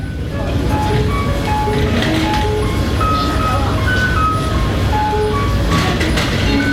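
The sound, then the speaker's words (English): A short, bright electronic guidance melody of clear stepping notes plays over and over from a small metal stand with a tactile braille map for blind people. It stands out above the steady busy hum and murmur of a crowded MTR station. “This special little tune can be heard in most MTR stations, and it's quite loud over the usual busy hum.”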